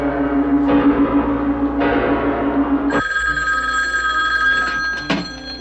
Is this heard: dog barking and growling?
no